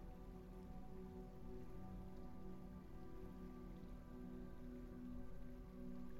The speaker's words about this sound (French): Et alors que vous avancez, que vous vous promenez, là dans ce paysage luxuriant, peut-être que vous pouvez entendre comme un bruit d'eau, un ruisseau, une rivière.